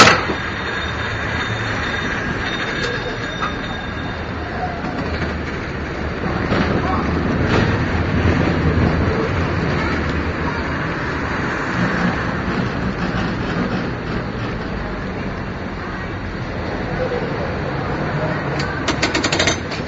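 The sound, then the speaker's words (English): A car idles and maneuvers back and forth, doing a three-point turn in front of a cable car, in steady street noise, with the clanking, rumbling mechanism of the cable car and occasional sharp metallic knocks. “Somebody's doing a three-point turn in front of a cable car.”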